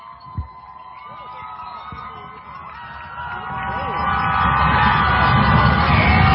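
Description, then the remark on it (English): A large stadium crowd roars and cheers wildly for the Anderson Cubs, the dense wall of shouting voices swelling steadily louder over several seconds, with a brief low thump near the start. “And the crowd is going wild.”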